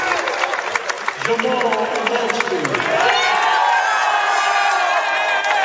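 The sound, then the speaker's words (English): A crowd, not huge but very loud, cheers and shouts at a basketball game featuring Oakdale, a dense roar of many voices with whoops and yells rising and swelling throughout, sustained without a break. “The crowd may not be huge, but they are very loud.”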